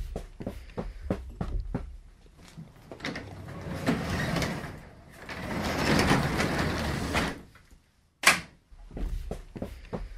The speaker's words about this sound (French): on peut pas faire ça, la porte de garage ouverte, là. Bon, ben, ferme-moi la porte.